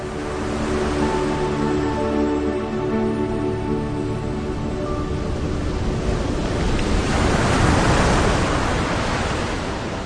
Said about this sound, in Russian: Вдруг Лиза услышала шум весел, взглянула на реку и увидела лодку. А в лодке Эраста.